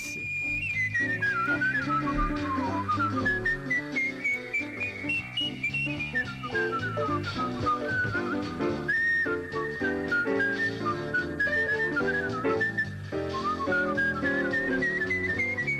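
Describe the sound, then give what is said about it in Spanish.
A virtuosic jazz whistler carries a fast, swooping melody over a lively instrumental backing, the bright whistled line gliding up and down loudly and continuously throughout, with no talking. “Este es, vamos a hablar del artístico, y hubo alguien que se recorrió todos los teatros del mundo, acompañó a …, acompañó a un montón de gente silbando jazz.”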